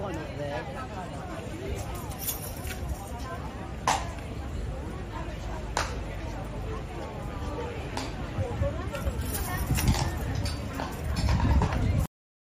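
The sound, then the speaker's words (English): A skittish horse's hooves clip-clop in scattered, uneven strikes, a few sharp knocks standing out over a steady rumble of background noise with muffled, indistinct voices beneath. “Okay, so you see here he pushes the button, which is obviously calling for assistance, because it looks to me like the horse has got kind of skittish.”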